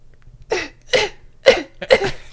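A person coughs hard four times in quick succession, harsh, raspy bursts spaced about half a second apart, close and loud with no talking.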